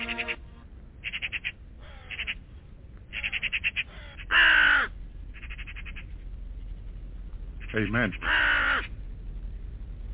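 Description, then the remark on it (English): A raven calls repeatedly with harsh, raspy croaks in irregular bursts, a few louder and more strained than the rest, responding to a person talking to it, while a person speaks briefly. “The raven was responding back to him, the Lion of Judah.”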